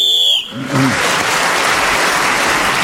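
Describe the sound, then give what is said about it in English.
A shrill whistle blows for about half a second to mark time up as Clement Freud is speaking, then an audience bursts into loud, sustained applause that carries on to the end. “So Clement Freud was again speaking as the whistle went, gained that extra point.”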